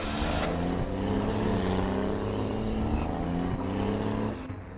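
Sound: car driving away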